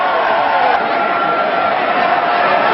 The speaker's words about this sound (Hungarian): Csúcsforgalom a londoni metroállomáson. De a türelmetlen utasok sehova sem szeretnének eljutni.